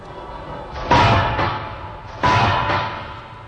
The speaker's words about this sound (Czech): Nikdo nás nedostal. Ty dveře se zabouchly náhodou, průvan nebo co?